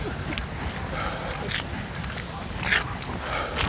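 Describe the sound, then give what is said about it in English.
A small dog sitting at a door barks a few times against a steady wash of noisy background sound, its yaps short and muffled rather than loud. “they've got a little dog that just sits at the door and barks and barks and barks and barks and barks and barks and barks.”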